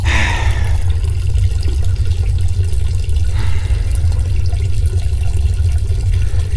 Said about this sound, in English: Mickey Mouse is looking at my pecker and watching me take a leak!